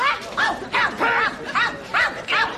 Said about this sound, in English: Oh, it's just a dog, mate.